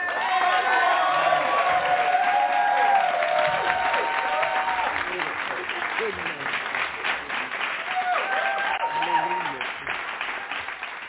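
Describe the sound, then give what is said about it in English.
A church audience bursts into sustained hand clapping as praise after a morning message, dense and steady for the whole stretch, with scattered cheers and voices calling out over the applause. “I think that deserves a hand clap praise.”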